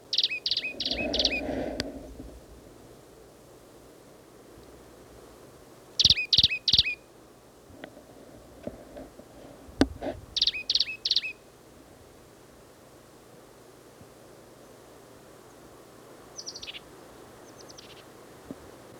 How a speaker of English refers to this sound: This is the plain titmouse again, same as last cut. He's sitting up in the top of a scrubby oak.